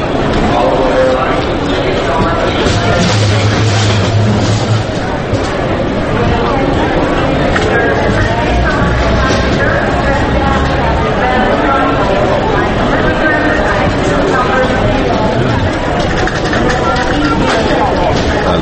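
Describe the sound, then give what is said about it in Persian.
Busy airport terminal ambience: a dense, steady wash of overlapping crowd chatter with scattered clatter and footsteps, loud and continuous throughout with no single voice standing out. “نشستم منتظرم که یه هواپیمایی چیز بلند شه بشه اینجا، صدای ترمینال هواپیماییه.”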